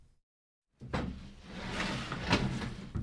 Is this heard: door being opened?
yes